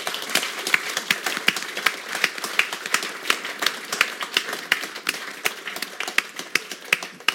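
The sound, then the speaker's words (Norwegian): An audience claps steadily for several seconds, a dense patter of sharp, bright hand claps with no voices over it, holding an even loudness throughout. “Vi klapper for begge, vi klapper for tyngden.”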